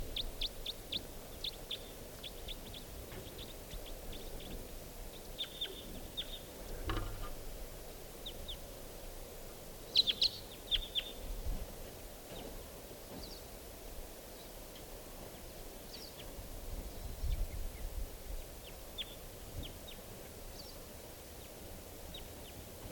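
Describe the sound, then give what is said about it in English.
A lone wild type 2 crossbill gives sharp, high kip calls at irregular intervals, with one louder burst of notes partway through, over a soft, steady background hiss. No one speaks. “And so there's a lone type 2 bird.”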